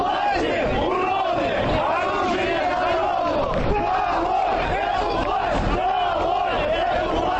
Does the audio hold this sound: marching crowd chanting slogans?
yes